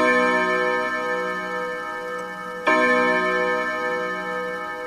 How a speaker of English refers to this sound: A clock chimes 12.